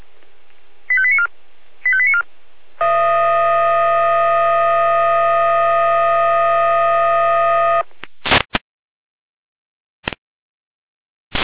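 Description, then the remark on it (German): Two short beeping tone bursts, then a long steady multi-tone electronic alarm signal lasting about five seconds, followed by a few sharp clicks over a faint background hum: alarm call tones sent over the radio by a fire and rescue dispatch centre, alerting a unit to a call for carrying assistance in Wonnitz. “Leitstelle, Alarmruf.”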